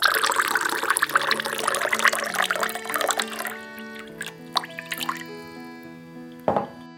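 A thin stream of ice-cold water trickles steadily from an absinthe fountain into a glass of absinthe served with a spoon of sugar, its pitch rising as the glass fills, then slows to a few separate drips. Fairly quiet, with no voices.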